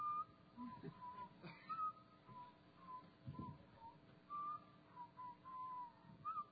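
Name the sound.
person whistling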